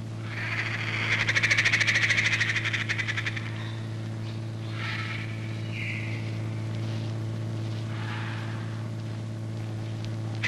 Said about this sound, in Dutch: Snelle boten varen nu en dan door het verdronken gebied, ook al om te kijken hoe het met de dieren gaat.